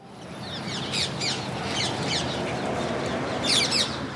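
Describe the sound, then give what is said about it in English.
A flock of parakeets in Beale Park, a neighborhood park lined with tall palm trees in Bakersfield, California, gives repeated shrill, chattering calls in short bursts, some louder than others, over a steady wash of outdoor background noise. “I'd read about a group of parakeets living in the area while researching how to take care of my own pet parakeets.”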